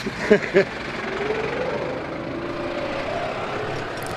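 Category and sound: vehicle, tractor engine running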